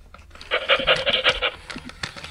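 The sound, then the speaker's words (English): A mechanical robot toy dog named Biscuit, the size of a normal dog and covered in fur, pants in quick, rhythmic breathy bursts, about six pulses, then trails off into faint clicks and rustling. No one speaks. “my parents were cruising past a thrift store and saw a mechanical robot dog named Biscuit and purchased it for me for Christmas.”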